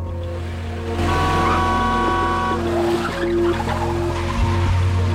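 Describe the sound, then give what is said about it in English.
A car roars and speeds off as the driver pulls out in front of another car and speeds back in the opposite direction, a loud, continuous engine rush lasting several seconds, with sustained tonal notes like horns layered over it and no talking. “As another car is about to pull around her, she suddenly drives out in front of it and speeds back in the opposite direction.”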